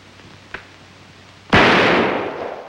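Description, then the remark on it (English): A faint metallic click, then a single loud, sharp pistol shot that cracks across the whole range and rings out in a long, slowly fading tail. No voices. “Inside, sitting neatly by a row of pencils, is a pistol. He picks it up.”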